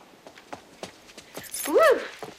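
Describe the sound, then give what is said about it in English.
Keys jangle in a string of short, light metallic clinks at an uneven pace as someone in a hallway looks for keys, with a brief high-pitched whining cry rising and falling near the end. “Harris stands in the hallway looking for his keys”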